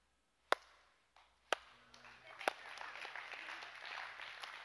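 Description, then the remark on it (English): A few sharp, isolated claps ring out, then a whole audience breaks into steady applause that swells and holds at a moderate level to the end, with faint voices underneath. “I didn't do that for you to clap.”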